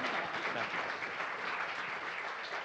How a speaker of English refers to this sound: But with that, let's give a round of applause for our final storyteller of the evening.